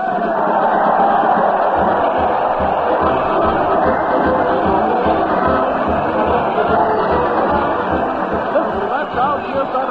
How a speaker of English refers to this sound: Parade to the old town hall. Fred's hurling kisses to the crowd, and the crowd is hurling insults at the mighty Allen Art players. Let's join the happy throng.